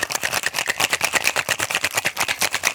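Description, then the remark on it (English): A cocktail shaker shaken hard and fast in a studio to mix lemon juice and syrup, ice rattling in a steady, rapid rhythm of bright, clattering hits, several per second, continuous for a few seconds with no voices. “So we're going to give this one a little bit of a shake in studio here.”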